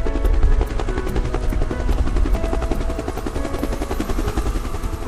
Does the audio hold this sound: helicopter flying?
yes